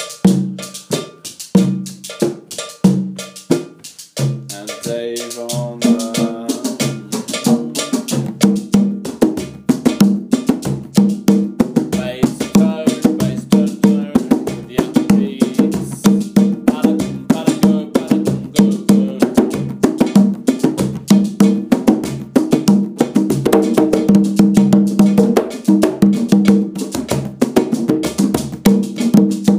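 Bells are struck in a fast, steady rhythm, playing the bell part of Waka, a piece from Sierra Leone via Ghana, with bright metallic ringing tones, starting sparser and building into a dense, continuous pattern that stays loud throughout. No one speaks.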